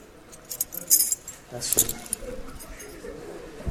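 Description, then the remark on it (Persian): A bunch of computer-cut keys with blunt edges jangles in two short, bright metallic bursts, with softer clinking in between, while people talk quietly underneath. “آقا کلیدامون هم همه کامپیوتریه، لبش تیز نیست.”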